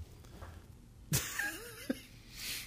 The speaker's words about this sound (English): Gave me some time to sniff my boogers back up. Oh, that's a... You know, when you have a cold, you never go hungry.